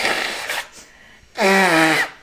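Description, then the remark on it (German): Someone blows their nose: a breathy, hissing blast, a short pause, then a loud, honking blow with a buzzy tone that sags slightly in pitch before cutting off. “Oh, ich muss einmal noch mal Nase putzen, ey, ist richtig krass.”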